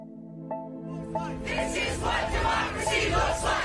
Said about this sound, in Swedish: Ett hundratal människor marscherar framåt i demonstrationståg medan ett stilla regn faller från himlen. Överallt syns plakat med politiska budskap.